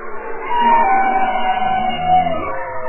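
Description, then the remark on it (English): Underwater bowhead whale and bearded seal calls, picked up by an array of underwater microphones near the Bering Strait, overlap: wavering tonal moans and a long, slowly descending whistling trill, fairly loud and continuous over a low, murky rumble. “Kate Stafford is a biologist and oceanographer at the University of Washington, and she and her colleagues have been cataloging that soundscape of the deep, like these bowhead whales and bearded seals.”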